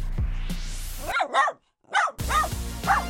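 A dog barks several times in quick, uneven bursts, fairly loud, with a short pause between the first pair and the later barks over a faint background.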